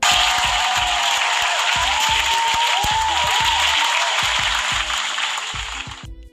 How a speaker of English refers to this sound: Round of applause, too, for Felicia Rashad.